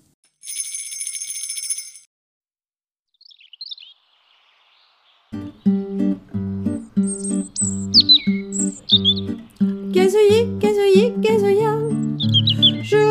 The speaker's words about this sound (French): Rouge gorge, gazouillis, gazouillis, gazouilla. Tu chantes pour moi, gazouillis, gazouillis, gazouilla. Joli rouge gorge, gazouillis, gazouillis, gazouilla. Je te reconnais là. Joli rouge gorge dans mon jardin.